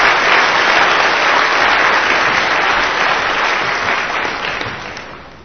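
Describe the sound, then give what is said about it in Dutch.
Dense, sustained audience applause, a steady wash of many hands clapping at full strength that begins to thin and fade slightly toward the end. No voices stand out. “Geef ze een applaus.”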